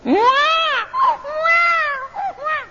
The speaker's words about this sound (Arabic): ما من مولود يولد على وجه الأرض إلا نخس الشيطان، نخسه الشيطان فيستهل صارخا، كما سمعتم